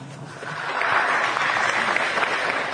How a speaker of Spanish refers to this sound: Hoy es por ello que se realiza esta especial ceremonia, y a todos les brindamos un fuerte y caluroso aplauso.